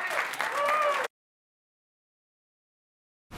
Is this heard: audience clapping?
yes